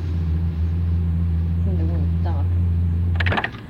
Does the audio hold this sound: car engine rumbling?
yes